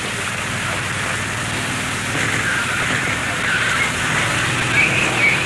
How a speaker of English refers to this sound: Anyway, here come the helicopters, and they are now heading for the prison. One of the large army helicopters now going overhead, over the wall, into the prison.